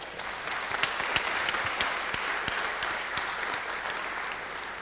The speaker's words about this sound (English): I think we all better clap really, really loud so that he doesn't do something that trashes all our data.